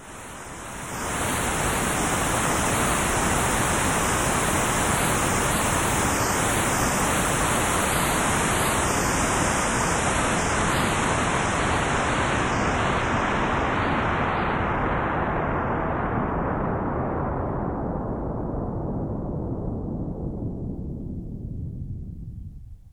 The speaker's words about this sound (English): white noise consists of all frequencies in a more or less continuous band throughout the range of human hearing. One type of filter, called a low-pass filter, will modify the white noise according to the variable frequency of the upper cutoff point.